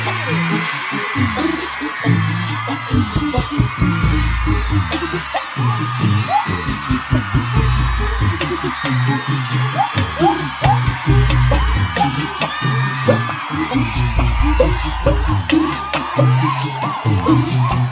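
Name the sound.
crowd shouting and whooping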